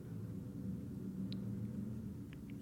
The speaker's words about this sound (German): Wenn ihr genau hinhört, könnt ihr das Flugzeug hören, das gerade über mich hinwegfliegt.